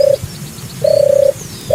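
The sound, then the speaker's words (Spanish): A European turtle dove coos in low, purring phrases, a short burst followed by a longer rolling one after a brief pause, clear with no talking. “Pero no cualquier tórtola, la tórtola europea. La tórtola europea suena así.”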